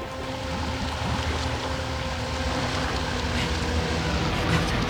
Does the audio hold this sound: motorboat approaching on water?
yes